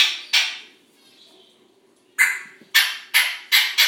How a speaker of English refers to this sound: That's him. That's like a percussive cat kind of noise. Oh, he's doing that. It's very cool.